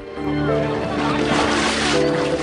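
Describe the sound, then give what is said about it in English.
Steady splashing and sloshing of water as a woman in a black bathing costume swims through a swimming pool, continuous, with a low tonal hum running underneath. “Penny, in a black bathing costume, swims in a swimming pool.”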